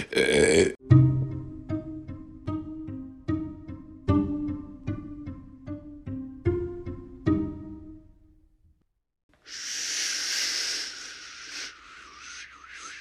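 human body sound, burp

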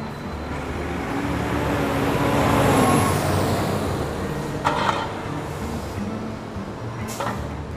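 vehicle, bus driving

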